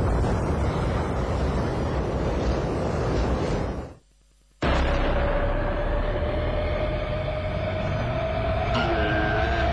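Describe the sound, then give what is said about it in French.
Loud, steady wind roars, cuts out for about half a second, then rushes back with a thin whistling tone running beneath it. “Je viens sous la forme d'un vent.”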